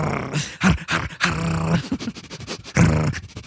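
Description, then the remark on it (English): A person imitates a Klingon growling like a dog in three rough, throaty bursts, each a low sustained rumble with brief gaps between, fairly loud with no words spoken. “He shouldn't be growling like a really? Dog.”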